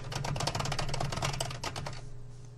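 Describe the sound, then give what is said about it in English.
Rapid, steady keystrokes clatter on a computer keyboard for about two seconds as a search is typed into the internet, fairly loud, then stop, leaving a low hum in the background. “By typing in BJ Armstrong.”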